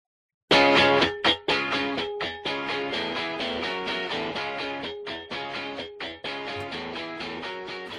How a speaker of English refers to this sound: It's dial-up. Let me get my modem.